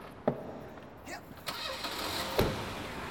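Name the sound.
car engine starting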